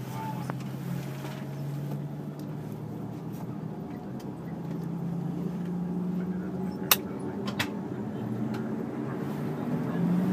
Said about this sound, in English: Engine starting. Well, the propeller not spinning. No, they're doing the other side first. The one on the right.